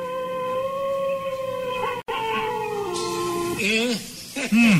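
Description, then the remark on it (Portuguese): A person imitates a wolf howl with a long, sustained, wavering tone that holds steady before breaking into rising and falling yelps near the end, loud. “E o perigoso lobo? É claro que é assim.”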